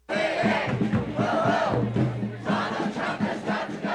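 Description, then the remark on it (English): A large crowd at a protest targeting Musk and President Trump chants in unison, a loud, steady roar of many voices rising and falling in rhythmic bursts, with no single speaker standing out. “Musk and Trump were the targets of protest over the weekend.”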